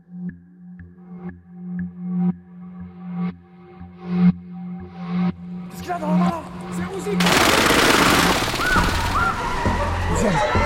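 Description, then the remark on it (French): Uzi submachine gun fire: evenly spaced, sharp shots crack out over a low steady hum, growing louder, then give way to a continuous, roaring wash of dense rapid fire and noise. “Qu'est-ce qu'il a dans sa main là ? C'est un Ouzi !”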